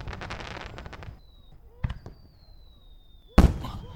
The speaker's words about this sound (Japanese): あれってハート型？昔は大きい丸いのがドーンって見えただけだったのに、最近のはすごいよね。 3D 花火ってのもあるらしいよ。